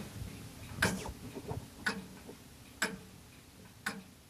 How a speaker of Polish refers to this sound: Jak panowie widzicie, to jest zegar duży, stojący. Miller Schlenker, niemiecki zegar, tak. Odrestaurowany przeze mnie, mechanizm zrobiony.